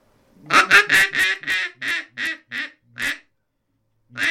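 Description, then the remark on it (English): A higher-pitched polycarbonate working duck call blown in a quick series of about nine raspy, bright quacks that slow and soften slightly as they go, then one more quack after a short pause. “And these are the main calls I use down there, the working calls.”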